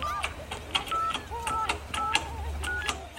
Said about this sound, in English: With sweating palms and trembling fingers, he dialed a very familiar number.